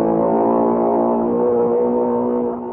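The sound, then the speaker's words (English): An outboard motor revs loudly with a steady, buzzing drone, its pitch holding mostly even for a few seconds before easing off slightly at the end. No one speaks. “Imagine that, a pony with an outboard motor.”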